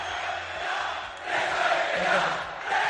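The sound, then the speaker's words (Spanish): A large stadium crowd jeers the Rayo president with shrill whistles and loud, overlapping shouts of "vete ya" as he presents Radamel Falcao, the din rising after a brief dip and staying dense and continuous throughout. “Porque este no solamente recibió pritos, sino también gritos de presa, vete ya, el presidente del Rayo, cuando ayer presentaba a Radamel Falcao.”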